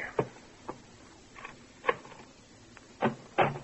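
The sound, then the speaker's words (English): Heavy pounding on a bedroom door late in the morning, waking a sleeper: about half a dozen dull thuds arriving in an uneven, insistent rhythm with short pauses between them, nobody speaking. “Late the next morning, a persistent pounding on the bedroom door awakes you.”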